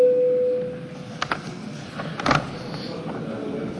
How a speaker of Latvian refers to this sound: Lūdzu zvanu.